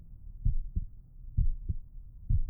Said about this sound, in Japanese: 前にもこうして、僕ちゃんに心臓の音、聞かせてあげたよね。